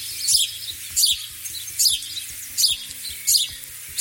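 A house sparrow chirps from a hedge in short, rough bursts, about five evenly spaced calls roughly a second apart, over a steady low background hum with no one talking.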